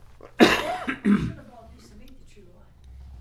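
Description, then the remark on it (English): Two short, raspy coughs close together, from someone with an itchy, irritated throat trying to clear it, followed by quiet background. “I feel that annoying little itch in my throat that's going to make me start coughing.”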